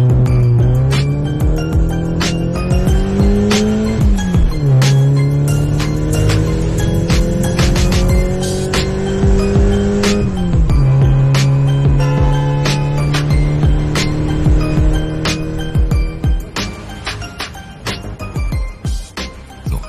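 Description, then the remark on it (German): People get into a car and drive off: the engine revs hard, its pitch climbing and dropping through several gear changes as it pulls away, with a faint squeal and clinking rattles mixed in. No one speaks. “Komm, wir steigen ins Auto. Wir fahren los.”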